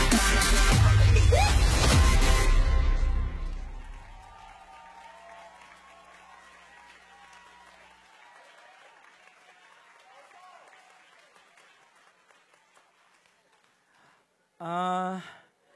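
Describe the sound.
A church audience bursts into loud, dense clapping for about three seconds to welcome a pastor, which quickly fades into a low murmur and quiet. A brief voice speaks near the end.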